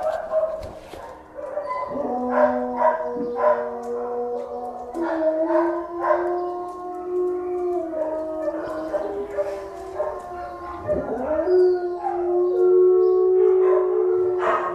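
Several dogs in a kennel howl together in long, wavering, overlapping cries, broken by higher whimpers and yips. The chorus is loud, with no speech, and carries on for the whole stretch.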